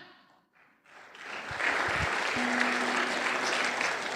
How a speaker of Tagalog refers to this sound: Ayun ang pumalakpak mga tao rito.